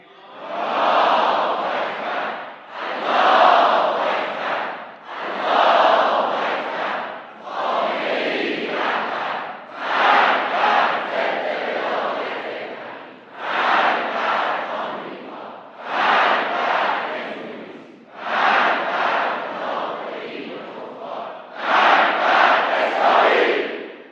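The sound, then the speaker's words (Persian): A huge crowd chants in unison at a rally on 13 Aban, loud roaring bursts of voices repeating in a steady rhythm, about ten chants with brief pauses between each. “صدای رعداسای ملت در 13 آبان امسال بلند شد.”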